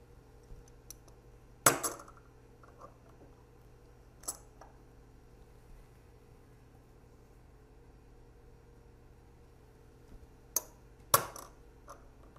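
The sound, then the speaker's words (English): Coins clink in a few sharp, bright bursts as they are lifted up in a Machatzit HaShekel (half-shekel) ritual, one early, one midway and a quick pair near the end, over a low steady hum with no talking. “And before the final time, to remind all of us, as we lift up the coins, we are breaking through the barrier to the endless light of the Creator.”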